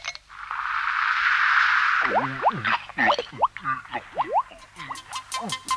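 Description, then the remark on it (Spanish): Someone drinking Menenap soda straight from a bottle: a steady fizzy hiss for about two seconds, then a quick run of bubbly gulps and glugs with squeaky, boinging overtones. “tómese una Menenap. De la botella nomás, dele de la botella.”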